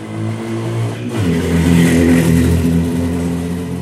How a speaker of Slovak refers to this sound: Chvíľu sme pochybovali, ale pohľad na dvoch motorkárov, ktorí sa blížili závratnou rýchlosťou do kopca, pretekajúca navzájom, nás presvedčil, že aj v tomto národnom parku sa porušujú zákonné zákazy, ale aj pravidlá zdravého rozumu.